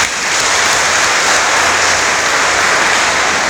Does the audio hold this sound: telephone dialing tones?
no